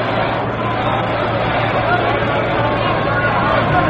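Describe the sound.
A noisy baseball crowd at Ebbets Field, home of the Brooklyn Dodgers, during a Dodgers–Yankees game with the Dodgers leading 3-1, produces a steady, unbroken roar of mingled voices and chatter, loud and constant throughout, with a faint low hum beneath it.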